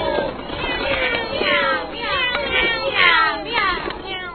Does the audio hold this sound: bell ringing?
no